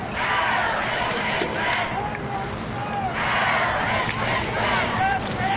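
Dense, steady crowd murmur at a high school football game before kickoff, while the color guard makes its way to midfield, with overlapping voices, scattered shouts and a continuous hubbub that stays at an even level throughout, no single speaker standing out.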